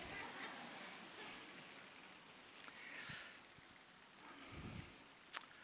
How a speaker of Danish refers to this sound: Jeg hører susen af regn.